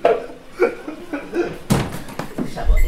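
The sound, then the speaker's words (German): A patient room door at a children's clinic in Tümingen opens with a single sharp clunk partway through, followed by some rattling and a low thump. Soft voices and a bit of laughter can be heard beforehand. “Die Tür geht auf.”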